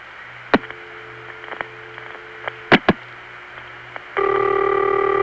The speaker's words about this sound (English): Now what comes next is the sound of a call going through on an NX1 phone line after something's been dialed on it.